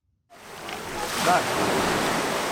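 Sea waves wash against the beach at the resort town of Mati, near Athens, Greece, in a steady, hissing rush that swells gradually and holds, moderately loud, with no voices over it.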